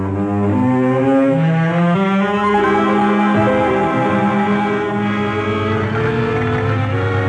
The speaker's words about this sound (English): You are having so much trouble with Dad's old car. I can't get used to the way these gears shift.